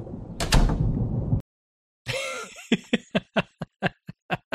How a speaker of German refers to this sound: Also das war doch großartig, oder? Also wie da die Tür geknallt hat.